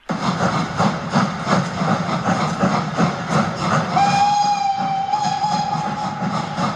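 A steam locomotive chugs along with steady rhythmic exhaust beats and loud rumbling, while a long whistle sounds partway through over the clatter.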